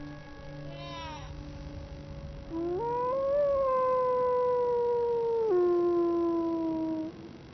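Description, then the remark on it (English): Wolves howling together in long, drawn-out, overlapping wails that rise and slowly fall. Softer tones lead into a louder, sustained chorus lasting several seconds before fading. “But the wolves need not risk injury today.”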